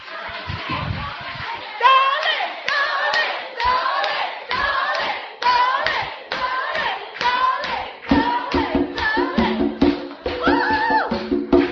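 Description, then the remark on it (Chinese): An audience at a New Year lantern riddle event claps steadily for several seconds to welcome the host, the applause dense at the start and continuing under loud, excited voices and cheering from the crowd. “哦，他不愿意出来，因为他说掌声不够。”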